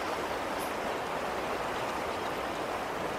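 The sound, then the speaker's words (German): A steady, unbroken rush of flowing river water, a dense even hiss that holds the same level throughout, with no voices or other sounds over it. “Ansonsten gern auch mal zwischendurch einen Fluss.”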